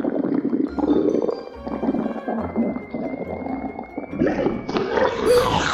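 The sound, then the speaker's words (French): A stomach gurgles and rumbles continuously, with low bubbling growls and squelchy, wet churning that grows brighter and busier toward the end. No one speaks. “les gargouillis de votre estomac évoquent à cet animal des coassements qu'il peut comprendre”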